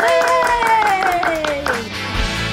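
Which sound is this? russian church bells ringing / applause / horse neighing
applause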